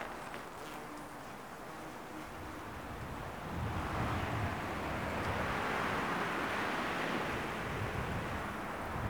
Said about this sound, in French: Rafale de vent entre les arbres.